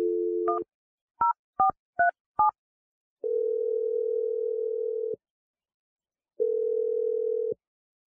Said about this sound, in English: All right, I'm going to dial Dave's phone number, and we're going to try and get your second date update. Here we go.